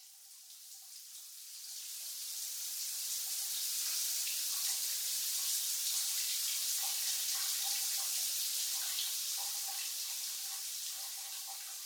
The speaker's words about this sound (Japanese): では泡々をシャワーで洗い流していきますね。